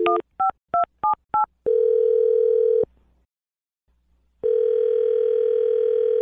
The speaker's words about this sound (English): I'm going to dial her phone number right now, okay?